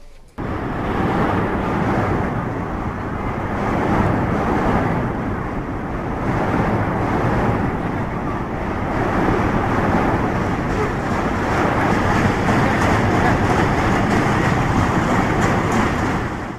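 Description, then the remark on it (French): A loud, steady roar of an elevated subway train running past in New York City, a continuous rumbling clatter with rushing, wind-like noise that holds at full strength for the whole stretch. “Le premier son est celui d'un métro aérien.”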